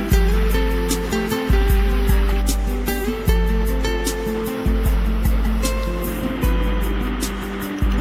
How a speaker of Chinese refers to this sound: 我们的快艇慢慢离开了港口后，风驰电掣般地驶向大海，带领我们去体验被放飞在空中的感觉。